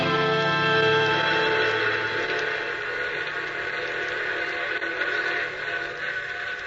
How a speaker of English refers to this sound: Is that the 10:30 for New York? Sure is. Always gives us a goodbye whistle.